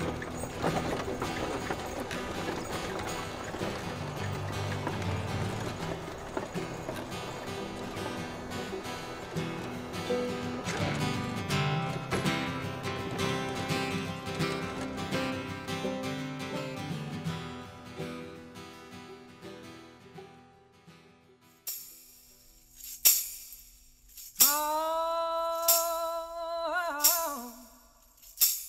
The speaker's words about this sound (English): She clicked her tongue, and the horses pulled away across the prairie.